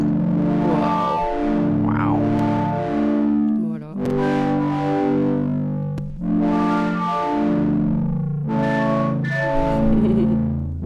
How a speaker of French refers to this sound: Et ben, il envoie en fait depuis tout à l'heure aussi ses données de capteur inertiel qui gèrent une distorsion sur ma harpe.